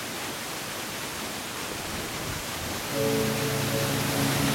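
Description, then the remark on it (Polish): A waterfall pouring down in a steady, dense rushing roar, continuous, with a faint tonal hum joining partway through and no voices. “Ręce rozłożyć i ta woda na ciebie leci.”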